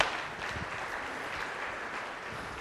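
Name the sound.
audience clapping hands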